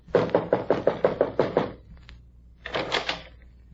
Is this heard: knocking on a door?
yes